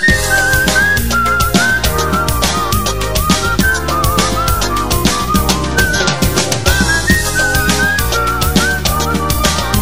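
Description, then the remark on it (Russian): A bright, cheerful Baku-style whistled melody rides on top of a full, steady band accompaniment with driving bass and percussion, the whistling clear and prominent throughout. “Но не забыл Баку родной и мой веселый бакинский свист.”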